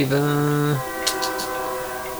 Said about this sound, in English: So this Shifty Button, and here comes the fucking train, of course.